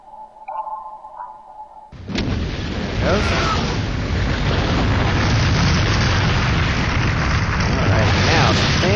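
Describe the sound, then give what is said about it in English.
A faint tonal hum gives way at about two seconds to a sudden deep boom that swells into a sustained, loud, rumbling roar, like a muffled underwater explosion that keeps churning to the end. It is an underwater explosion off the port side of a ship in a naval video game. “we're gonna get a nice, good explosion here a little bit off to our port side.”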